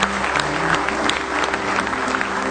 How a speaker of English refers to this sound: Give Him another good hand clap of praise if you love Him.